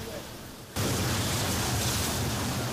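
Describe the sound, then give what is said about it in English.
After a brief quiet moment, a powerful fire hose spray bursts on abruptly and keeps roaring as a loud, steady hiss of rushing water, continuous to the end, as firefighters in a training drill keep a water curtain in front of a burning tank prop. “They must keep the curtain of water intact for protection.”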